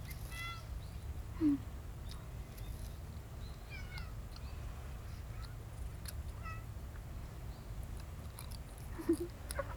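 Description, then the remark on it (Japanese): Cats, including an old cat, chewing food, a steady wet munching that runs throughout, with a couple of short cat sounds and birds chirping faintly in the background. “あれ、やっとおいしゅう食べれたね。”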